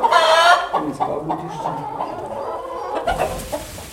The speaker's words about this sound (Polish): No, to cicho, kury.